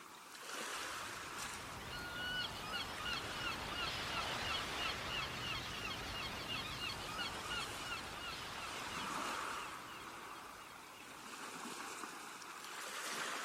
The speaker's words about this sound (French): Vous appréciez pour quelques minutes encore le bruit des vagues et des mouettes et la douceur de cette mer accueillante.